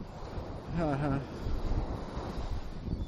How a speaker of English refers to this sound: So I'm here at the Atlantic Ocean here. This is the Atlantic Ocean. If you look at the Google Earth, just look for Pompano Beach, Flower Turd, Ocean Drive, that whole business.